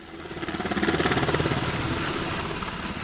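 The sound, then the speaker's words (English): A Coast Guard MH-60 helicopter returning from a training flight in Kotzebue: its rotor thumps in a steady rapid pulse over a broad engine roar, loud, swelling slightly then holding level with no voices. “It was business as usual as the second MH-60 helicopter returned from a training flight.”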